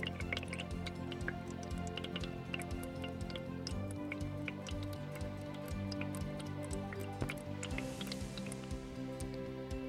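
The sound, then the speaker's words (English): Water drips steadily through a filter into a big container with a tap below, a quick, irregular run of small plinks and ticks over a constant low hum, with no talking. “You gotta wait for a while for the water to run through the filter and drop in the big container.”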